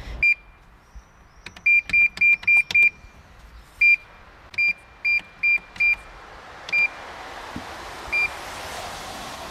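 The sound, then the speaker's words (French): A Citroën 2CV being refuelled with about 25 litres of petrol at a pump: a string of short, high electronic beeps in quick irregular bursts, then sparser beeps as a soft rushing hiss of fuel flow builds. “la deux chevaux avale ses 25 litres quotidiens d'essence.”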